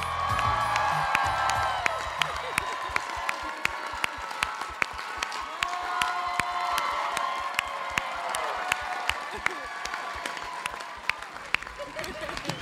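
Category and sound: crowd, audience cheering and applauding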